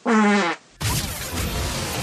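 fart sound

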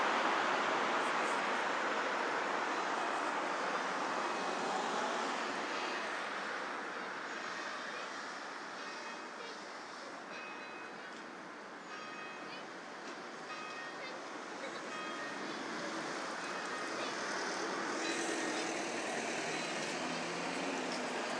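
road traffic

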